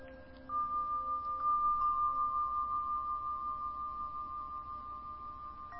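A Tibetan bell rings out with a bright, pure tone that sustains and slowly fades, its shimmering overtones lingering steadily for several seconds with no other sounds.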